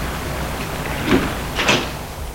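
The door of a house is opened by a servant after the bell is rung: two brief scraping, rattling bursts about half a second apart over a steady low hiss, with no voices.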